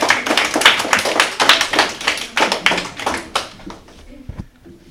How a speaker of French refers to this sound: Applaudissez-les bien fort, s'il vous plaît.